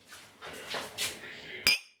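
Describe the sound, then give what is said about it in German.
Two glasses of a freshly made drink clink together once in a toast, a sharp bright chime that rings briefly, preceded by soft clattering and rustling. “Prost. Prost.”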